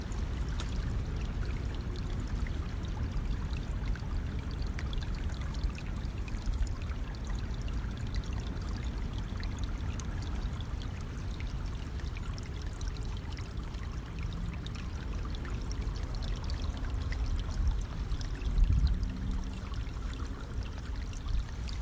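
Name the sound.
flowing river water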